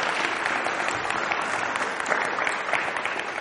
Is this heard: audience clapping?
yes